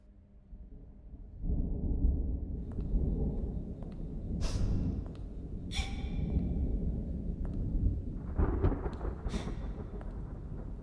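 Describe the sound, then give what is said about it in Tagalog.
Deep, rolling thunder rumbles steadily through a lightning storm, with a few sharper crackling bursts breaking over the low roar, as occasional lightning lights a hallway of Santa Lucia. No one speaks. “Ang manakanakang kidlat lamang ang ilaw niya.”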